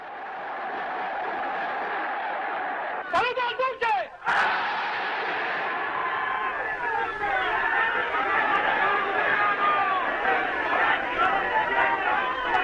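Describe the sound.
A huge outdoor crowd in Piazza Venezia, Rome, roars and cheers continuously as Mussolini speaks from the balcony of Palazzo Venezia to announce the declaration of war, with rising shouts and chant-like cries swelling over a dense wall of voices. The din dips briefly once before surging back, loud and sustained.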